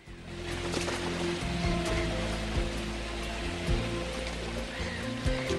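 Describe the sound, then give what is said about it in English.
Rushing water pours steadily from a waterfall in a jungle, a dense, continuous roar that stays loud throughout, with faint steady tones humming beneath it. “They arrive at a waterfall.”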